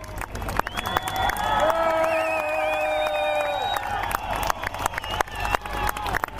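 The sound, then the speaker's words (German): Applause from several thousand spectators on a square as a high-wire artist arrives safely after walking a tightrope to a cathedral tower, a steady wash of clapping with scattered cheering throughout. A loud sustained, tonal hoot or horn-like sound rises above it for a few seconds early on, then fades. “Doch unter dem Applaus der Leute kam er sicher an”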